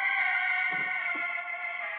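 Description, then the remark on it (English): A key turns in the lock of a house door, giving two soft mechanical clunks about half a second apart, set against a steady, droning hum that continues throughout. “We hear a key turn in the door.”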